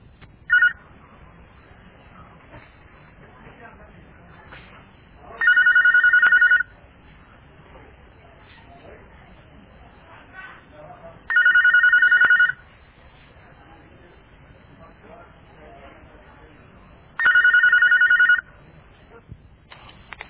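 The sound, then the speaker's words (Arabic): A telephone rings three times, each steady electronic burst lasting about a second and spaced roughly six seconds apart, over a quiet hissing line with no one speaking, before the call is answered in a question-and-answer session held by phone. “من سلسلة الهدى والنور أجوبة على أسئلة عبر الهاتف.”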